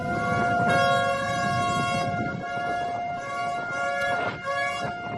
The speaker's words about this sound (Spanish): Así sonaban las sirenas de los buques que han participado en esta maniobra tras lograr alejar al Ever Given de la orilla.